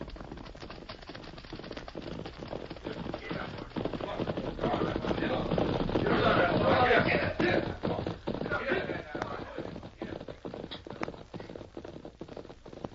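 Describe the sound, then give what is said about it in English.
A big bunch of riders on horses thunders along a trail, led by a young man wearing a sheriff's badge; dense overlapping hoofbeats swell as they draw near, peak loudly, then fade away. “Riders in a big bunch.”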